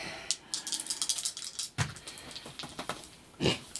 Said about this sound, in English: Stay on the table, dice. The dice are getting slap happy.